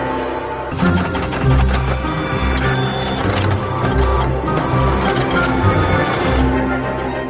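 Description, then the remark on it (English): A printer whirs into motion as it unblocks after software resets its counter chip to zero, its mechanism grinding and clattering steadily for several seconds, loud, with rhythmic mechanical pulses and no voices. “The printer immediately unblocks.”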